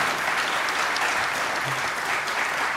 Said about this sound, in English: How about a round of applause for our panelists